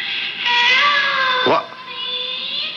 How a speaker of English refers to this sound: Sounded like a cat.